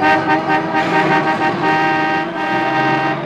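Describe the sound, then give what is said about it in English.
Loud car horns blare almost continuously over busy city traffic, several overlapping honks swelling and fading, with no one speaking. “In the city, the Lord is my shepherd.”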